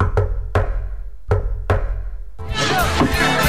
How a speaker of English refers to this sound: I didn't hear the secret knock. I did the secret knock. Of course, it's pretty loud in here. Could you do the secret knock again?